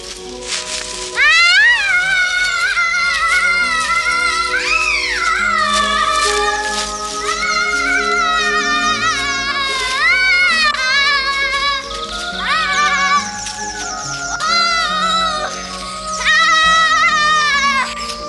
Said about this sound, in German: Mein Frühlingsschrei. Ich musste so schreien, sonst wäre ich geplatzt.